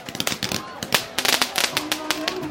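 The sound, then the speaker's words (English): Pink, white and blue fireworks set off by a street crowd at New Year along the Ming Dynasty city walls of Xi'an, China, crackle and pop in quick, irregular, sharp bursts, with a murmur of crowd voices underneath throughout. “The crowd set off pink, white, and blue fireworks.”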